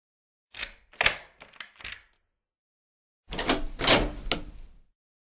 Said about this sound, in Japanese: 鍵開けたよ。